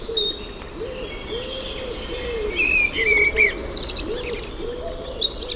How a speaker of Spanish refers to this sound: Cuco.